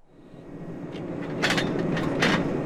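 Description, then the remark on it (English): Workers use a crane-like truck with a corkscrew-like auger attachment, a few hundred yards away, drilling into the earth for a tall wooden power pole to connect Blackwater to the grid: a steady low mechanical rumble, broken by a few loud, hissing, grinding bursts that swell and fade. No one speaks. “That's because a few hundred yards away, workers are using a crane-like truck with an attachment called an auger. Looks like a giant corkscrew drilling into the earth.”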